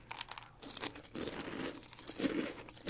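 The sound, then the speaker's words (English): Crisp, sweet breakfast cereal crunches as a girl chews it in a blind brand taste test, a run of irregular crackly bursts swelling and fading over a few seconds, with no talking. “Well, so she doesn't know which one is which, so she's going to start eating now. Okay. I'm trying one lot now.”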